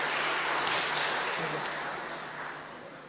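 Dense crackle of audience applause, many hands clapping steadily at a fairly loud level, then gradually thinning and fading toward the end, with no talking over it.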